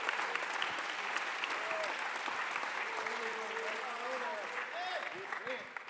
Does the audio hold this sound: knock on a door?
no